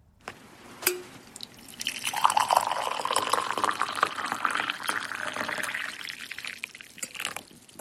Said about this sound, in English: John from Ireland sent in that recording to share the sound of tea being poured from his old red Polish teapot. He says it's not the same if it's a tea bag in a mug filled from the kettle.